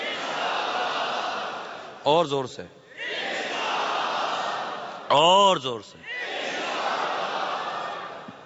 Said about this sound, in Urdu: سارے انشاءاللہ کا نعرہ بھی نہیں لگا رہے، یہ سارے مل کر نعرہ لگائیں یہ مطلب اس کی درو دیوار گونج جائیں گے انشاءاللہ.